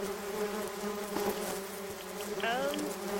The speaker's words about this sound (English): Yeah, I think these are Canadianized honeybees. They're really nice, and they smell like maple syrup.